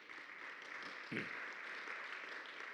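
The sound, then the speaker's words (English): A crowd applauds themselves, clapping steadily in a dense, even wash of applause throughout, with a brief thump or voice rising out of it about a third of the way in. “Give yourself a little round of applause.”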